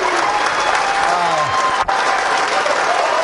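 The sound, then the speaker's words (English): Baltimore Ravens staff clap steadily and loudly at the castle in Owings Mills, greeting new Ravens head coach Jesse Minter, his wife and three young children: a dense, continuous wash of applause with a few voices calling out underneath and a brief dip partway through. “Minter then addressing the Ravens staff as the applause subsided”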